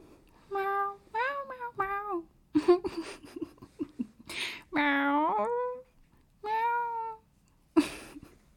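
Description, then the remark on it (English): A voice imitates a cat, giving a string of about six drawn-out, rising and falling meows, fairly loud, separated by short breathy gaps and soft sounds. “Yeah, I will pretend to be cat and heel.”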